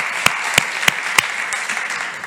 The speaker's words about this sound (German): Lass uns Jesus einmal ehren mit unserem Applaus.